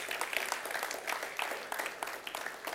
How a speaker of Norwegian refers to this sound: Gi en applaus for vår tolk der oppe.